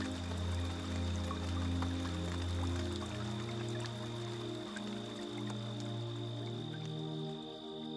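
Steady rain patters throughout, scattered drops tapping over a constant wash, blended with low, sustained musical tones humming underneath at an even, moderate loudness.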